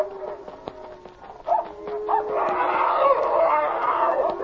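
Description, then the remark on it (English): Two dogs fight, a German shepherd named Checo and a huge strange dog that was in with the cattle, starting with a few sharp barks and a tonal howl, then breaking into a loud, continuous tangle of snarling, barking and howling. “Goodness, that huge dog will kill Checo.”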